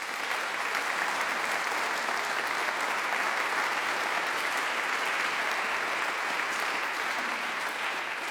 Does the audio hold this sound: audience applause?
yes